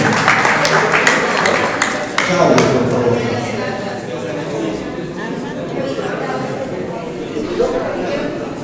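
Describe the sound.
A short burst of audience applause, sharp scattered claps for about two seconds, fading into a steady murmur of crowd chatter and voices.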